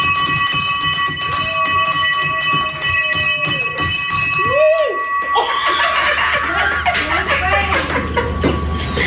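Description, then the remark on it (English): A cancer bell rings hard and continuously, its bright metallic tones hanging in the air, then a sudden clatter as people break into laughter and cheering over the ringing. “I broke the bell.”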